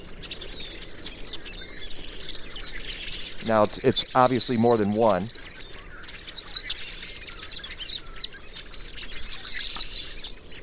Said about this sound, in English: And that's the rusty blackbird. Now, I'm not familiar with the rusty blackbird. It's not a bird that we would see normally. It lives in the forests. And I don't even know why that particular bird is in decline.